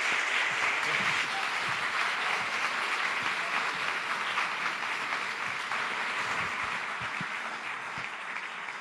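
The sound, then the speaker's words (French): Sustained crowd applause for the evening's first guest fills the whole stretch, a dense, steady wash of many hands clapping at an even loudness with no pauses, full, with no one speaking over it. “je vous demanderai de l'applaudir très fort.”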